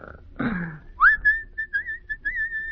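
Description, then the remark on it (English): A man whistles a short tune while hanging on the front gate of the Lynn home in Linfield on the Sabbath, clear notes gliding and wavering in pitch, just after a brief rough breathy noise at the start. “Don't seem to me you're looking very hard, hanging right on the front gate and whistling on the Sabbath.”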